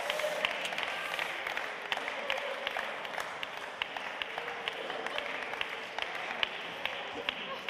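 An audience applauds steadily for several seconds, a dense patter of many hands clapping at an even level, with a few sharper individual claps standing out from the wash.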